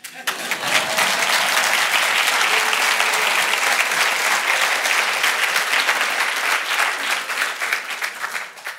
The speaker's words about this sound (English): That was part one. You can probably clap.